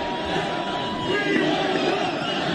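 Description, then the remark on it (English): A large arena crowd at the Holyfield fight roars and chants "We want Trump" together as President Trump is received, a dense, sustained wall of many voices, loud and continuous throughout with no single speaker standing out. “We want Trump. That's what everybody's saying in the audience. I don't think I hear that back home. Everybody's screaming right now.”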